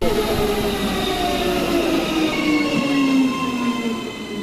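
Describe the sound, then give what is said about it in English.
A train rolls through Panmure train station, a loud, steady rumble overlaid with high metallic wheel squeals that slowly slide downward in pitch, with no voices. “At the Panmure train station, passengers were left wondering how they'd commute next year.”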